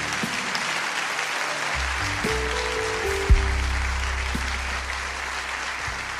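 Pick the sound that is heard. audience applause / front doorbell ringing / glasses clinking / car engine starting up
audience applause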